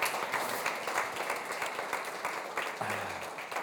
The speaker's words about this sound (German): Also vielleicht auch einen Applaus mal